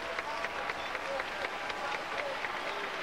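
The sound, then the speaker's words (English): A large audience at a worship service claps steadily and dense applause fills the space, with scattered cheering voices and shouts rising through it, sustained and fairly loud throughout. “Clap again and give your voice to him with all of your might.”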